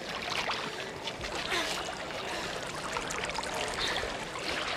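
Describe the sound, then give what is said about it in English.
Water is poured over wood and a sacrificial offering for the third time, splashing steadily, a continuous rushing and spattering that overflows from a trench and runs off, with no voices and no pause from start to finish. “We have poured the water a third time, Master.”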